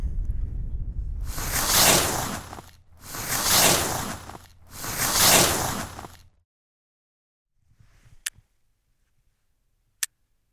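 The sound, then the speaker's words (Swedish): Skis carve down a snowy slope back toward Kebnekaise mountain station in three long, loud hissing sweeps, each swelling and fading, followed by quiet with a few faint scrapes and two sharp clicks. “Och nu kommer jag att ta på mig skidorna här och börja skida ner tillbaks till Kebnekaise fjällstation igen.”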